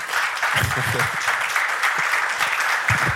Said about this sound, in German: So, und wir gehen jetzt ins Publikum und bis sich jemand meldet, würde ich mal um einen kleinen Applaus für mein Podium bitten.